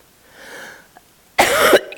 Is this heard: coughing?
yes